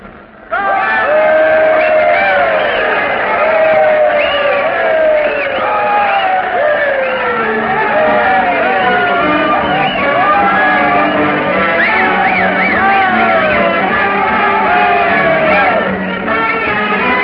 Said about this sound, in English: There'll be a crowd in Peter waiting to welcome the train at the end of its run, probably the biggest crowd this little place has ever known. With their brass band all lined up and ready, and here she comes.